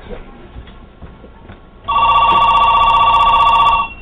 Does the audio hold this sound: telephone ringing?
yes